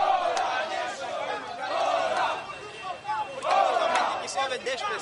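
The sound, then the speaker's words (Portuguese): A crowd of protesters demanding the resignation of governor Rui Falcão shouts together at a street demonstration on a police-altered route away from the busiest streets, their massed voices rising in loud surges and briefly easing between them. “O grito dos manifestantes foi ouvido longe das ruas mais movimentadas, uma vez que a polícia alterou o percurso para a insatisfação dos promotores”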